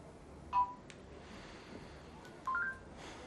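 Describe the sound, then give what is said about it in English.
Short electronic beeps from a telephone keypad as a woman dials a phone: one tone, then after a pause a quick pair of tones, clear but moderate in volume against a quiet hush. “She picks up the phone and stares at it.”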